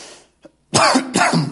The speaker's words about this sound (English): Okay, apologize for the coughing.